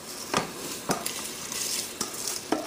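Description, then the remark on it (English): Cold, washed rice tipped into a pot of boiling water, with a steady hiss and bubbling broken by four sharp scraping strokes at uneven intervals. No one speaks. “So I'm going to go ahead and I'm going to add my rice in here.”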